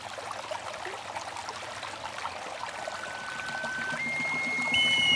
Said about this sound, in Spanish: Y su gran amor, el joven guerrero, que abatieron por la espalda en batalla, fue transformado en el río sobre el que cae el agua cristalina, juntando sus almas para toda la eternidad.